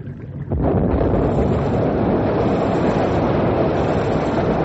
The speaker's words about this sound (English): We're all set now to blow up the jam.